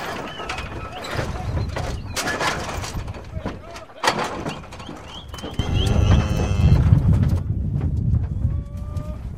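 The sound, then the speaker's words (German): A busy outdoor livestock scene in the Argentine pampa: hooves clatter and clop as mounted ranch hands drive 32 cows and 2 bulls toward the pen exit for loading, while cattle low and riders call out, with the commotion swelling louder and denser toward the end. “In Wollmütze, Pullover und Gummistiefeln überwacht der Chef das Verladen, während berittene Angestellte die Tiere zum Ausgang des Geheges drängen”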